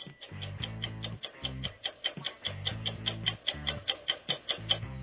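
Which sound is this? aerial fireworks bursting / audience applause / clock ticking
clock ticking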